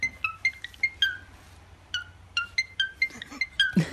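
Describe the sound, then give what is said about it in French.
A parakeet named Lucky whistles an iPhone ringtone melody: bright, clipped chirping notes repeated in a steady ringing pattern, with a faint low hum underneath and a brief rough squawk at the end. “C'est une sonnerie d'iPhone chantée par une perruche.”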